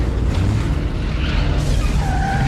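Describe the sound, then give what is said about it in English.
A truck roars in loud, tires skidding and squealing in high streaks over a constant heavy engine rumble, with no voices. “Right now, there's a truck directly in the line of fire coming.”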